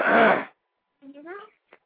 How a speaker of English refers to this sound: From all that coughing.